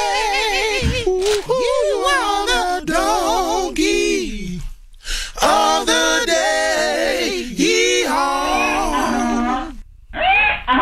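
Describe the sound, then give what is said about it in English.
A vocal group sings a loud 'donkey of the day' jingle that imitates a donkey's hee-haw, with swooping, harmonized notes, a brief pause near the end and one final sung burst. “Please give Derek Porter the sweet sounds of the ….”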